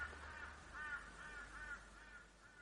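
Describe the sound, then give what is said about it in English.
Several crows caw repeatedly in overlapping harsh calls as a flock takes flight, a steady stream of cawing over a low outdoor rumble, with no one speaking. “A murder of crows takes flight.”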